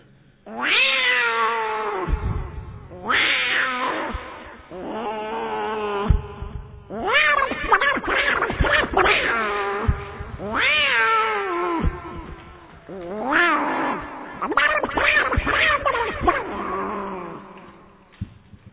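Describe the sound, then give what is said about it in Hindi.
Two cats fighting in the courtyard outside a house yowl and caterwaul at each other in long, wavering, overlapping wails, loud, rising and falling in repeated bursts with brief pauses between them. “घर के बाहर आंगन में दो बिल्लियां आपस में घूर रही थी। उसके बाद फिर वो लड़ने लगी, पहले घूरती हैं फिर लड़ती हैं।”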